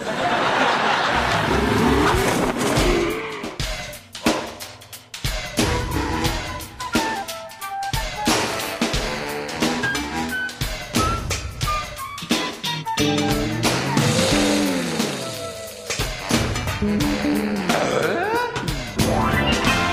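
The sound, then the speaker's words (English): A voice imitates revving car engines, producing rising and falling engine-like drones and sputters for about twenty seconds, with bits of chuckling mixed in. It is fairly loud throughout. “Why don't you tell us the difference between the engines?”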